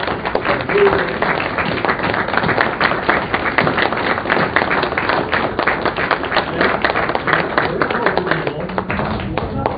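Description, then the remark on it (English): An audience applauds steadily as corporate eagles stand up to be recognized, many hands clapping in a dense, continuous patter for about ten seconds, with faint voices mixed in beneath the clapping. “Would our corporate eagles please stand up and be recognized? Let's give them a round of applause.”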